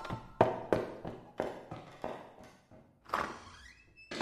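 A door slams shut amid a run of heavy, hollow thuds spaced about half a second apart, ending in a louder bang and a brief squeaky creak, fairly loud with no voices.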